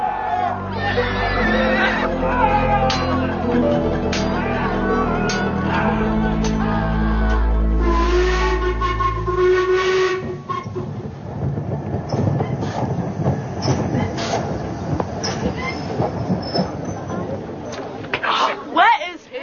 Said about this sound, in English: A crowded train station that's in Austin, in Cornwall. We've just arrived, us three and Mum and Dad, lugging our cases, tripping over each other